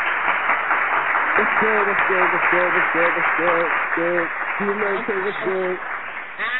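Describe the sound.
Steady, dense applause from a crowd for a spoken word artist performing live on the show Frontline Fridays fills the whole clip, with bursts of voiced cheering or shouting rising above it partway through.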